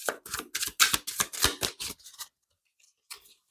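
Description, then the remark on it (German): A rapid flurry of crisp papery riffles as a deck of oracle cards is shuffled for about two seconds, then a pause and one brief soft card slide as a card is drawn. “Ich möchte dann nochmal Orakelkarten haben.”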